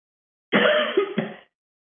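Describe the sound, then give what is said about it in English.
One sharp cough bursts out suddenly, with a rough, raspy throat-clearing edge and a couple of quick follow-up pulses before it dies away, with no talking around it. “Mom just made me cough.”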